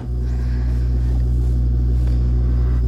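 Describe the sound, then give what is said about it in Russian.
A car engine idles steadily in frosty weather, a continuous low, droning rumble with a constant pitch and level throughout, with no voices. “у него мотор? Да хуй он ездил, что-то сегодня не повезло из-за мороза, видать.”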